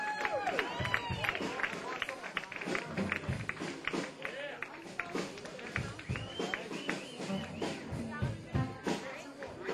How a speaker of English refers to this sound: Let's give … a nice round of applause to do two. He gonna do two more numbers for you, and that's gonna be it.